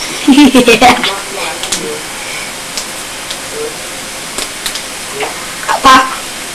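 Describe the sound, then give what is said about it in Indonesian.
Food sizzles steadily in a pan with scattered scraping clicks of stirring, while a voice talks briefly at the start and a few faint sounds interrupt near the end. “Lihat panci ini aja, jangan lihat Tomisa”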